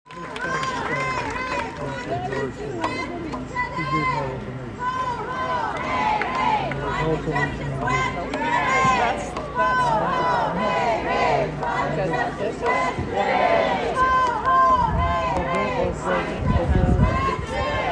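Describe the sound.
A large climate strike protest crowd, arriving with signs, murmurs and chatters continuously at the busy intersection of University Avenue and Union Street; many overlapping voices form a lively, steady hubbub with occasional louder shouts and bumps rising out of the babble.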